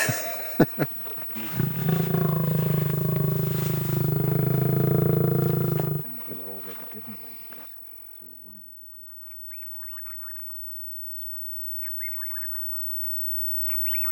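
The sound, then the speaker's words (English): A lion lets out a deep, sustained roar, a loud low rumble lasting several seconds, then fades away; quieter voices and faint bird-like calls follow afterward. “I think that rumble is something that's deep-rooted in our genes, I think. We recognise it, even if we've never seen a lion.”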